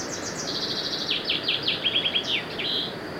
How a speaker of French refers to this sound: Il y a un oiseau.